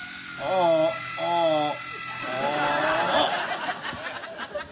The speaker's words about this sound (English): All right, now for this particular anchor, what you want to do is first drill a hole, then you want to set your anchor with your hammer. All right. Quickly use a screw. Screw it in like that.